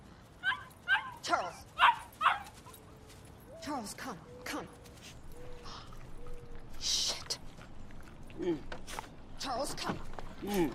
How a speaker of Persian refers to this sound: سگ احمق، زود بیا اینجا. چارلز بیا. وای خدای من. همین حالا بیا اینجا پسر. چارلز بیا بیا بیا. بیا اینجا.